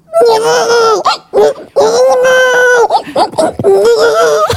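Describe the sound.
A woman imitates a baby crying by screaming into her arm, producing loud, wavering wails in several long bursts separated by short catches of breath, sounding slightly muffled.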